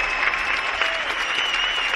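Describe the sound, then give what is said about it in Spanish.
Audience applause at a sports event, called for from the stage for a fighter, fills the whole two seconds: a dense, steady wash of many hands clapping at an even loudness, with no individual claps standing out and no voices over it. “Puedo pedir un fuerte aplauso para Macaulay Macaulay, por favor, que lo merece.”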